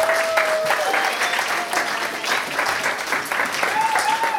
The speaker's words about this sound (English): There you go. Look at that. There's lots of rounds of applause today, and that's good. There'll be more later as well once we get to the pool.